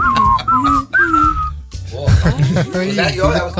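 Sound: whistled melody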